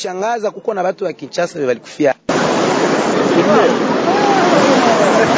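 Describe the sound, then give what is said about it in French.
A man speaks briefly, then a loud, steady rush of the flooded Nyamukubi River takes over, a dense continuous roar with faint voices threaded through it. “Ici, c'est la rivière Nyamukubi.”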